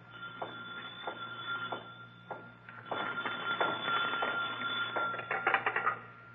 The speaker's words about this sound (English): Suddenly, a phone rings on the desk of the night watchman, rings and shatters the silence of this modern tomb of ancient art.